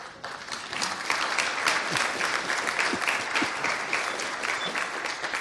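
A crowd claps steadily for several seconds, applauding two dev room volunteers who stand up, a dense wash of overlapping handclaps at an even, moderately loud level that tapers slightly at the end.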